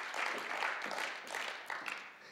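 An audience breaks into applause, a dense, steady patter of many hands clapping at once that swells slightly and carries on for a couple of seconds with no one speaking.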